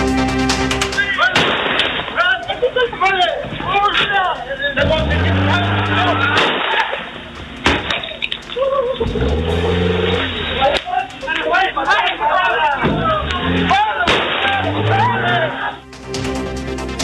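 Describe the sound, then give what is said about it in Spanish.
A few sharp, loud gunshots fired from a moving vehicle, apparently at people in the street, in the Barrios Bajos sector, ring out at scattered moments over engine noise, while several people talk and shout throughout; captured by security cameras. “De acuerdo a videos de cámaras de seguridad que se han difundido, se observa cómo se percutan varios disparos desde un vehículo en movimiento, aparentemente contra personas que estaban en la calle.”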